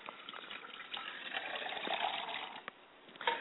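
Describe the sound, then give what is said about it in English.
Water pours steadily into a glass for about three seconds, a continuous splashing gush that swells slightly before trailing off, with no voices; the glass of water is poured as an offering for a father's spirit. “I pour a glass of water for my father's spirit.”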